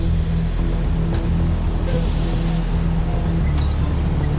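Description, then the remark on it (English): Team buses rumble onto airport tarmac for a charter flight departure with a steady, loud, low engine drone and a constant hiss of wind or jet noise around them, with no voices. “As the crew finishes last-minute arrangements, the team buses make their way onto the tarmac for departure.”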